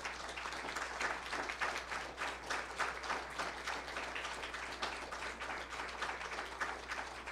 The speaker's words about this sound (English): who have served and are a veteran, if you would be so kind to allow us the opportunity to commend you and to stand, that we might honor you and maybe have a round of applause and then have a word of prayer for you today.